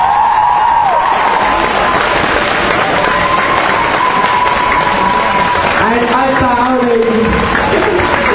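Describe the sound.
Loud, steady audience applause fills the whole stretch, a dense wash of clapping with cheers rising over it, while a man speaks briefly through the noise.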